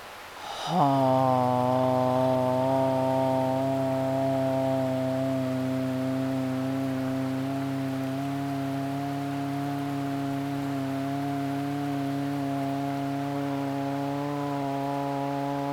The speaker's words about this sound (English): And again, we're going to go back to hum. Take a nice deep breath, and when you're ready, make the sound.